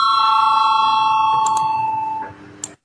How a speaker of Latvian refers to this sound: Lūdzu zvanu, balsosim par pirmo deputātu Tavara priekšlikumu.